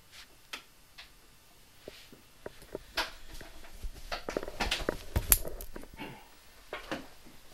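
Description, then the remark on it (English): A clock ticks quietly, its sharp little clicks coming roughly every half second and clustering into a busier, slightly louder patch of ticking midway through. “The clock's not bothering me.”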